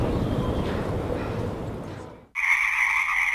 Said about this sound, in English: It's 10 o'clock. The revelry of the Pacific chorus frogs is scarcely affected by the engine vibrations from passing late-night airplane flights.